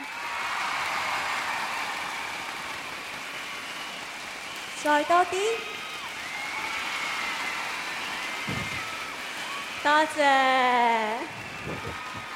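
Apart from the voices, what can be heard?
audience applause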